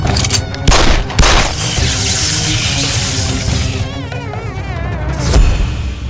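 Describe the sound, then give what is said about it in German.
A high, wavering mosquito whine drones beneath a dense, loud barrage of gunfire as someone shoots with a Beretta at a mosquito on the ceiling, with heavy blasts near the start and another sharp boom near the end. No voices. “da oben ist eine Mücke an der Decke. Erschieß sie.”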